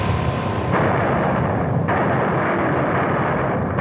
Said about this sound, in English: At that point, the guardsman on my right fired his weapon. Within, again, milliseconds of that single report, the volley itself began.